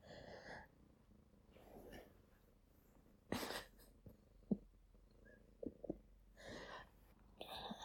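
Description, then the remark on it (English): A cat purrs in a steady, low rumbling rhythm, broken by a few sharp breathy snorts and sniffs, with no talking. “Cat, you're just spoiling the mood.”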